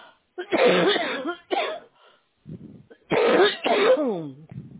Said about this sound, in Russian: Это что-то прям кашель сильно. То ли здесь такая, то ли что. Прям дышать не могу.